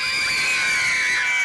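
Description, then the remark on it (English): Several children scream together in a high, sustained shrill chorus, loud and continuous for the whole brief moment with no talking. “The children screamed.”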